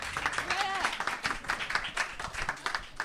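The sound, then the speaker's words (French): A group claps in a dense, steady patter of overlapping hand claps for about three seconds, with a brief higher-pitched vocal sound, like a cheer or whoop, rising above it early on. “Bravo à toi. Applaudissements.”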